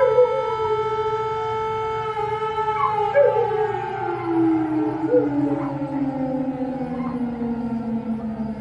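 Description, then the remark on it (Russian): A long, wailing air-raid siren slowly glides downward in pitch while several local dogs howl along with it, their wavering cries blending into the drawn-out tone. No one speaks. “Или только мои собаки местные воют на сирену, они подхватывают ее.”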